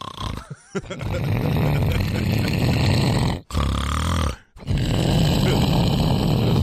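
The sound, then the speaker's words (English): A man makes loud, rasping snoring sounds in long, continuous bursts broken by two brief pauses for breath, a voice imitation with a harsh, engine-like rumble. “I'm not sure if it was the jet or you snoring.”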